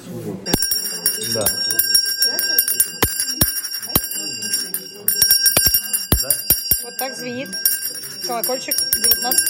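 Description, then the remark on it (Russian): A small restored handbell, originally from Nizhny Novgorod Governorate and fitted with a homemade handle, rings in repeated shakes, its bright metallic tone sustaining and shimmering almost throughout, with a brief pause near the end, while people talk quietly underneath. “Он возрожденный колокольчик, он, видимо, пострадал.”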